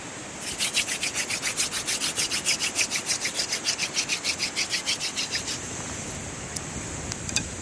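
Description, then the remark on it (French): Wood rubbed rapidly against wood in regular strokes to start a friction fire, producing smoke and dust in the V-notch; a steady rhythmic series of scratchy back-and-forth strokes that stops abruptly, followed by a few faint clicks. “Alors contrairement à ce qu'on pourrait croire, c'est pas forcément des gestes très rapides dont on a besoin. Des gestes réguliers. Là, on voit déjà de la fumée, un peu de poussière qui rentre dans le V.”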